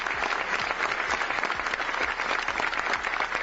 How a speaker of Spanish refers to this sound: Dos nuevas víctimas, presuntamente de la violencia de género machista, que han sido recordadas con 5 minutos de silencio y donde solo los aplausos al final han logrado romperlo.